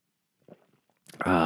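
A short, soft slurp of red wine from a glass, the third sip of the second glass of the night, a few quiet mouth clicks, then a loud, drawn-out satisfied 'ahh' exhale right after the sip.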